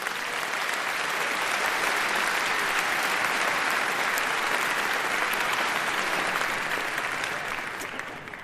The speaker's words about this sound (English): A round of applause.